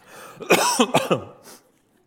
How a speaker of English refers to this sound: That's the worst time to cough. I think arguably the worst time. But I will.